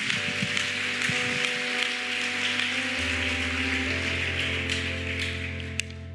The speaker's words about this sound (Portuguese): Vamos lá, se for para aplaudir, aplauda o Senhor. Vamos lá.